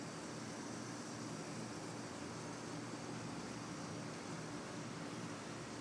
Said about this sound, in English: Oh, now it kicks off. Now the air conditioner kicks off.